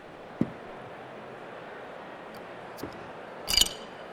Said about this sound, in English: All right, I got to pour myself some, sorry. Beer break.